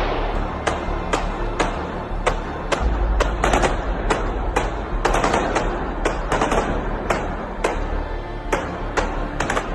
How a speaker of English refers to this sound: Concert hall area farther inside, concert goers can hear the shooting outside.